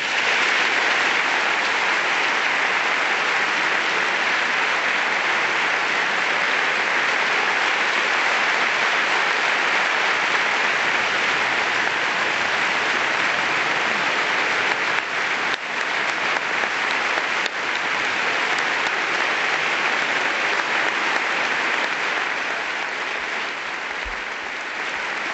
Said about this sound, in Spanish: Ovación a la reina doña Sofía, que se ha puesto en pie y que está recibiendo una ovación casi tan larga como la de su hijo, ¿eh? Puestos en pie también, don Felipe y doña Leticia.